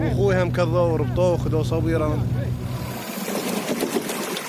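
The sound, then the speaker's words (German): A boat motor hums steadily under a man's talking, then is switched off abruptly about three seconds in, leaving the boat drifting in the middle of the broad Shatt al-Arab river with a softer, hissing wash of water and ambient noise. “Ahmed stellt den Motor ab. Das Boot treibt jetzt mitten auf dem breiten Fluss.”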